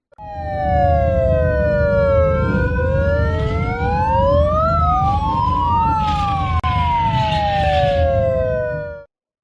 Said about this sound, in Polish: To dźwięk i syren, dźwięki wybuchów, które były uruchomione z urządzeń elektronicznych.